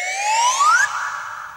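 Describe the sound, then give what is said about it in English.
A slide whistle glides steadily upward in pitch for just under a second, then gives way to a briefer, steadier high tone that trails off. No one speaks. “Oh, the slide whistle every the day. The slide whistle.”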